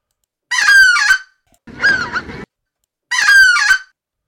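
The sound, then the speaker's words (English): Loud honking from a live goose comes in three bursts: two matching bright, nasal double-note honks with a rougher, raspier honk between them, separated by short silences. “All right, this is a live bird.”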